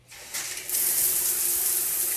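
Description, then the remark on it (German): A tap is turned on and water gushes steadily into a sink, the hiss swelling stronger after a moment and then pouring on evenly, with no voices. “Wie also umgehen mit der Gefahr aus dem Wasserhahn?”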